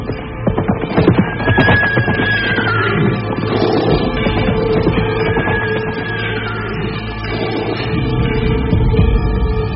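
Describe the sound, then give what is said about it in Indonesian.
Horse hoofbeats at the end of a road clop in a steady, uneven rhythm within a dense, continuous mix of rumbling and clattering noise, holding a fairly constant loudness throughout. “Pada saat itulah Terdengar derap kuda di ujung jalan.”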